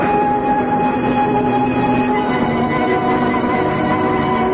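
train riding on rails

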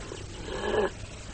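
dogs

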